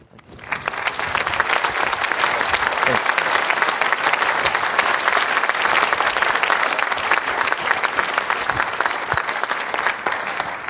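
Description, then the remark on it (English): Sustained applause from a large audience at a reading event while a podium is removed, a dense wash of many hands clapping at steady volume for about ten seconds, with no voices standing out. “So let's applaud more while they remove the podium.”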